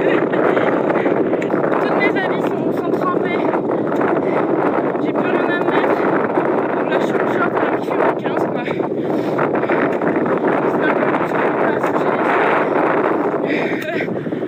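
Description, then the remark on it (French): A strong wind roars steadily on a sailboat at sea, a loud, unbroken rush with buffeting gusts and water noise that never lets up for the whole stretch. “Il y a énormément de vent”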